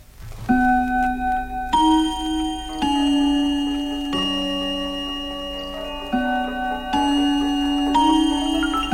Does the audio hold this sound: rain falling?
no